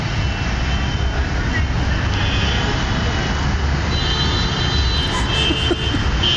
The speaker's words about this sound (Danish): Det er, jeg har også med min mobiltelefon optaget et lille videoklip her. Mm. Og læg også mærke til, hvordan det dytter helt fuldstændig vildt. Sådan lyder trafikken hele tiden.